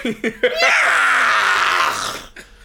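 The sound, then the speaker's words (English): A few short vocal yelps lead into a long, loud, strained high-pitched scream as a person wails in a way that mimics a yowling, dying cat. “Like a cat, like a dying cat.”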